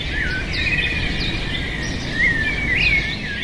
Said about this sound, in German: Der Lärm von Mexiko-Stadt, der sonst stellenweise bei gesundheitsschädlichen 90 Dezibel lag, ist verklungen. Vogelgezwitscher ist deshalb besser zu hören